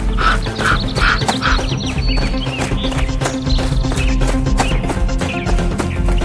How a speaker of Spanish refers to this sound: Los lobos acababan de irse cuando el cielo se oscureció y muchos cuervos comenzaron a bajar a picotearlos a todos.